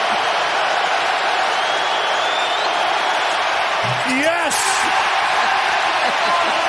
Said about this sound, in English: And the crowd explodes. I thought it was oh, my. It's so easy to make people happy.